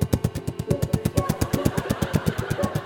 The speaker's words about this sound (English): Police helicopter.